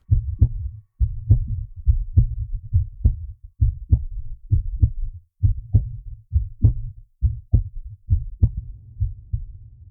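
heartbeat

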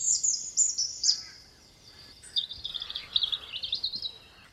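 small songbird singing

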